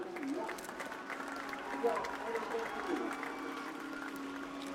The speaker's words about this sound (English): My husband steps up and makes his speech before I even realise. They're cheering him.